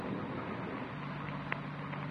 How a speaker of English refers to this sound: Outside, it started to thunder. Rain's starting, man. Windy.